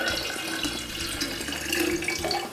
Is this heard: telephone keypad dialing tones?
no